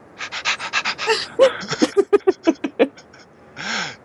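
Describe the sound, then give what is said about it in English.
A person pants rapidly like a dog, a quick rhythmic string of about a dozen breathy huffs ending in a longer exhale. No words are spoken. “I'm a dog now.”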